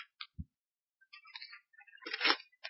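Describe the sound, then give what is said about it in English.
Thin Bible pages are flipped while searching for Matthew 5:15: a few quick soft ticks and crinkles, then a busier run of papery rustling before a last light flick. No one speaks. “Takes a little bit of this thin paper to find a place.”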